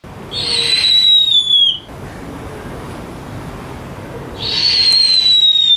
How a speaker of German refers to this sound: Schneeeule.